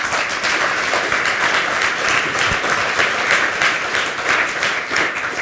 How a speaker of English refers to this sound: Everybody, give Sven a huge round of applause. He's been a great senior herald angel. Guys, give it up for Sven.